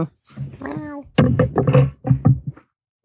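A tomcat meows several times to be let outside, a drawn-out, wavering cry followed by a few shorter, insistent calls in quick succession, loud and clear with no other sounds around.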